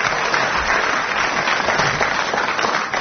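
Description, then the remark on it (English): Sustained applause from a studio audience for four audience members who came up and held a bottle chair, a dense, steady patter of many hands clapping at a consistent loudness for the full few seconds, with no voices standing out. “A round of applause for the four gallant members of the audience who came and held a bottle chair.”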